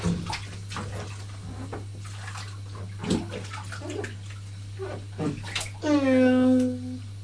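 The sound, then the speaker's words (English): Water sloshes and splashes over a steady low hum, with scattered brief bursts, and a child's high voice rises near the end; ordinary water being given as a drink. “What are they having to drink? Water. Just ordinary water.”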